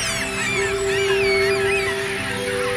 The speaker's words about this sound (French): les mouettes qui viennent ici par jusqu'à plus d'un millier d'individus, hein, se rejoignent tous les soirs ici sur cette grande plaine d'eau. Le soleil déchire les dernières nappes de brume et inonde la plaine. Les oiseaux s'en donnent à cœur joie.